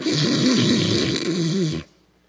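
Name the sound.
voice imitating snoring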